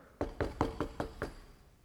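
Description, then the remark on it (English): A polite series of six quick, evenly paced knocks on a trailer door on a Native American reservation near Omak in northern Washington, moderately loud, with no voices and quiet between the raps. “And when you knock on a trailer, it's noisy, right? But it was a courteous knock, so he goes to the door and opens it,”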